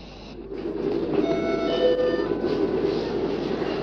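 A train rumbles steadily along the rails nearby, a continuous low roar with faint metallic squeals and tonal whines rising over it, growing slightly louder as it passes.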